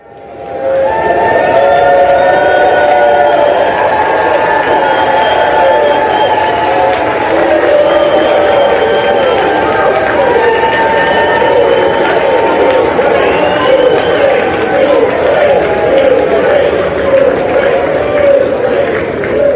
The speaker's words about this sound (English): That's the sound of cheers in the House of Representatives as they finally voted to send overdue reinforcements to Ukraine. Finally. The vote was 311 to 112, finally providing over $60 billion in aid to Ukraine.